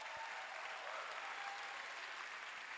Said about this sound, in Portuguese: Recebe ela com um aplauso aí, por favor.